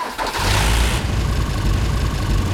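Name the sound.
pickup truck engine running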